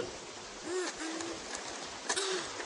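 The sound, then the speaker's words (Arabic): Steady rain patters down in a continuous, even hiss, with a few soft, low hooting tones rising briefly over it partway through. “سأجرب أن ألعب وأتحرك وأغتسل تحت المطر لأكون نظيفا. ما أجمل المطر.”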